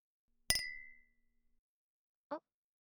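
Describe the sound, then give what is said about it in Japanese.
A single bright glass clink rings out as glasses touch in a toast, its tone lingering for about half a second before fading, followed by a brief soft voice-like sound. “じゃあ、席に着いたところで、乾杯。”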